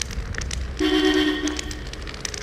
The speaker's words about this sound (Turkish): Arabalar geçiyor. Bakalım.